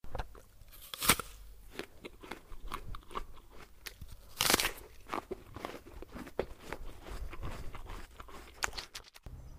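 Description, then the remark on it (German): Juicy, crunchy bites into a colourful, very sweet fruit picked from a tree, followed by steady wet chewing. Two louder snapping crunches stand out among a run of quick, irregular mouth sounds; no one speaks. “Yusuf rannte schnell aus dem Wasser, um eine bunte Frucht von einem nahestehenden Baum zu pflücken. Oh, koste mal.”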